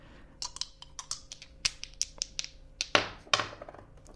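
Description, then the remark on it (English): Dice rattle and clatter in a quick, uneven series of sharp clicks and taps, with a couple of louder tumbling bursts near the end. No voices are heard. “That's the rattling of the dice, which evokes the image at the crucifixion of the soldiers gambling for Jesus' robes.”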